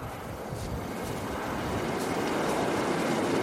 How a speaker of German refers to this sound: Eine kurze U-Bahn-Fahrt und ich bin im Stadtzentrum.